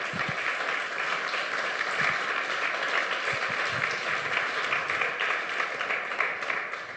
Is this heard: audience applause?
yes